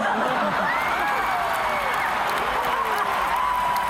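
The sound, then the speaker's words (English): A large crowd cheers and applauds steadily for a band, with scattered clapping and overlapping shouts and whoops forming a dense, continuous roar throughout. “All right, so …, and the crowd goes crazy.”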